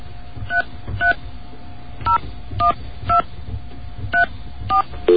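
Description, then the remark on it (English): Touch-tone telephone dialing of the MTA New York City Transit hotline: about eight short, bright two-tone beeps tapped out in an uneven rhythm over a low steady hum, with no voices. “Let's get a dial tone.”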